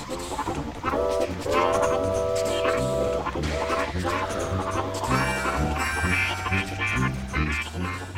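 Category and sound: vehicle, train passing on rails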